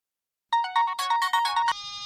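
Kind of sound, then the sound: signal or alarm, telephone ringtone ringing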